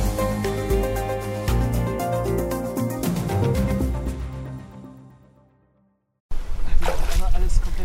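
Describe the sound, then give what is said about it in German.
Music fades into a short silence, then splashing and sloshing begins as a man 1.90 metres tall, in rolled-up jeans, wades step by step through the shallow water of the Ruhr river, up to his calves, for the last couple of seconds. “Vorsichtig geht Tim Kramer ein Stück weiter in den Fluss.”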